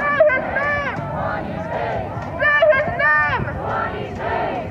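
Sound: protest march crowd chanting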